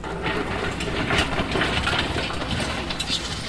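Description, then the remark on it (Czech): An excavator drives along a riverbank just above a weir at the Lipky canoe campsite, where floating piers are being built, its engine droning low while metal tracks clank and grind in an uneven rattle throughout, with no voices. “Na břehu jezdí bagr.”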